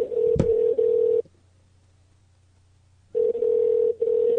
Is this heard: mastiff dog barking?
no